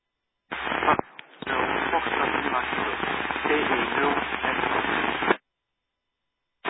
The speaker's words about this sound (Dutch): Mag ik het signaal uit de ruis dan een keer terug horen?